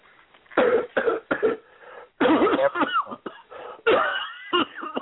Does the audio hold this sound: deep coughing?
yes